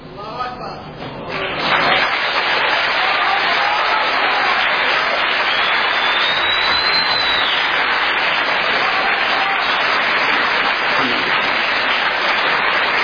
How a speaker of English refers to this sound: Now, if you're wondering, that is Allahu Akbar is being yelled in the back.